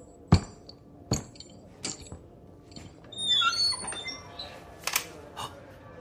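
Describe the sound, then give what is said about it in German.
Several sharp clicks and knocks like a latch being worked, then a brief high squeak as a door swings open, followed by a few more faint clacks; no voices. “Öffnen Sie die Tür, Bruder Jaguar, und treten Sie gleich zur Seite, damit ich hinaussehen kann.”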